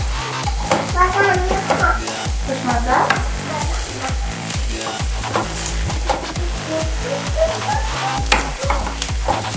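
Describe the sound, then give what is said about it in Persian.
Apples sizzle and crackle in a pan while a utensil stirs them with repeated scraping strokes, a steady busy rhythm of hissing and clatter throughout, with no talking. “من در به هم زدن مشغولم، حساب میکنیم دیگه، بعد گوش میدیم ببینیم چند بار اینو هم زدن.”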